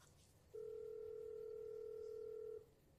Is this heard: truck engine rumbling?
no